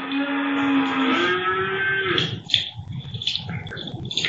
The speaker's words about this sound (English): They do have two cows as well. They're in a small yard by the mill.